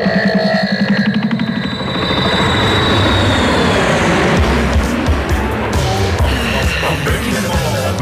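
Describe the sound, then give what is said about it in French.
A loud aircraft engine spools up as the plane is warmed up for a flight to Saint Helena: a high whine fades as a deep, churning roar builds and holds steady, continuous for the whole stretch. “Allons-y, fais chauffer l'avion, s'il te plaît.”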